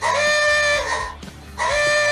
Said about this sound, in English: Old-timey car noise. Awooga!